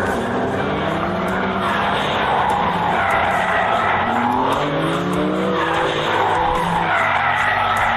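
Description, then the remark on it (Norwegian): A BMW M car drifts on a track, using BMW's M-Drift Analyzer driving program, with loud, sustained tire squeal over a revving engine, the screeching pitch wavering up and down continuously throughout, with no one talking. “Bilen vil gi deg en oversikt over hvor flink du er til å drifte, fra 0 til 5 stjerner, til og med vinkel.”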